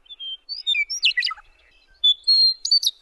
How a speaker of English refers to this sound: The western meadowlark's sweet song also reminds me that the solemn gray winter has finally ended.